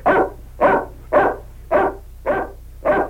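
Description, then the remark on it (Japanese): A dog named Robo barks at the father and the others six times in a steady, evenly spaced rhythm, each bark loud, with a faint low hum underneath and no talking. “お父さんたちに吠えるなんて。やめろよ、ロボ。”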